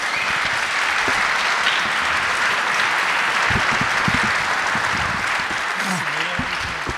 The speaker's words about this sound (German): Bitte einen donnernden Applaus